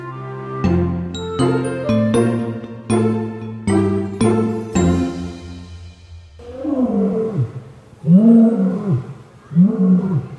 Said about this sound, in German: Unverkennbar zu hören, wo wir jetzt in Hellabrunn hingegangen sind. Wir sind natürlich bei den Löwen